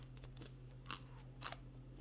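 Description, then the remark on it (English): Crunching as someone chews a crunchy pretzel, with two sharp, loud crunches standing out over softer chewing noises and a steady low hum underneath. “Man, that's a crunchy crunch. Just too much crunch and then there's a chew in it.”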